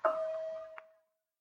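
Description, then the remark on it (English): A doorbell pressed at a front door gives a single ring, one clear bright tone that sustains and fades away within a second, with a faint click near the end. No voices. “And in a few moments later, as the wave of panic mounted inside you, you walked up to his door and pressed the bell.”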